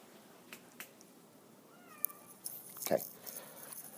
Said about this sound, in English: Listen to this fucking cat out here. Hear it? Hopefully you hear it.